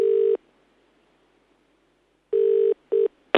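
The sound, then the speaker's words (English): A phone call is made back from an office phone that shows a blocked number. The line rings out with a steady electronic ringback tone in short double bursts separated by a pause, heard clearly and alone, ending with a brief click as the call connects. “Let's call him back.”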